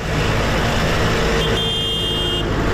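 Tractor engines of protesting farmers on the roads of Mallorca and Menorca rumble steadily throughout, and a horn honks for about a second partway through, loud over the continuous engine noise. No one speaks.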